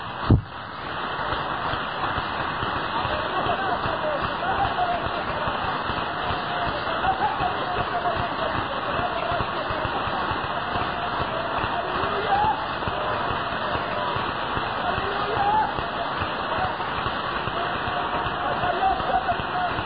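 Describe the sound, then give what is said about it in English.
A large audience at a worship service claps hands together for the Lord in a dense, steady roar of applause that holds at an even loudness for about twenty seconds, with no break or clear rhythm. “Let's give the Lord a great and wonderful hand clap together.”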